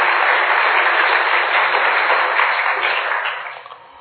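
An audience applauds to thank a speaker at the end of a session, with dense, steady clapping that stays loud and even for most of the stretch, then begins to thin and fade toward the end. No one speaks over it.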